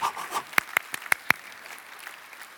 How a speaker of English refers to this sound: Come on, get warm. Get warm. Clap it, clap it.